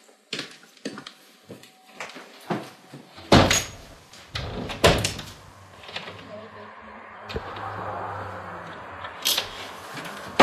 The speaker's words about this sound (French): Un instant. Je ferme la porte.